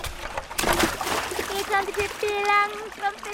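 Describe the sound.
A barrel with a person inside is rolled into water: a burst of splashing and sloshing, followed by a high, drawn-out voice calling out over the lingering watery noise.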